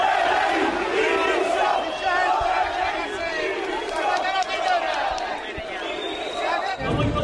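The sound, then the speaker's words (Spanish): A large crowd of Sevilla football fans shouts and chants angrily in unison against Lopetegui after Sevilla's 2-1 defeat to Almería, a dense, continuous roar of many voices with rising and falling waves of protest. “Gritos contra Lopetegui.”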